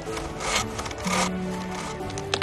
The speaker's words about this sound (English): She saws a notch and stands. What was that? Notched a hinge at the base. Wouldn't want this old spruce to fall in your direction, though, would we? She crouches and continues sawing.